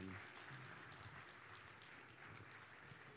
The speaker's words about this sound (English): Would you all give them a round of applause for doing that? Thank you.